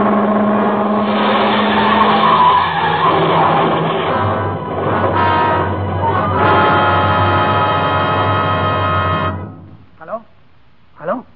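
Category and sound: vehicle, car brakes screeching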